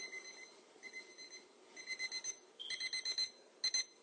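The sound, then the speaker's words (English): A phone alarm set for Rosh Hashanah beeps in repeated bursts of bright, tonal chirps, the pattern quickening toward the end; loud, with no voices over it. “That was my Rosh Hashanah alarm. I didn't change it.”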